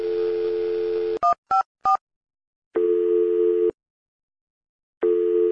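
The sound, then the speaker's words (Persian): A steady dial tone gives way to three quick keypad beeps as an emergency number is dialed, followed by a telephone busy signal pulsing on and off in long, evenly spaced tones, clear with no voices. “آره دارم، ولی مشغوله. دوباره صدای تلفن اورژانس گرفتن و برو”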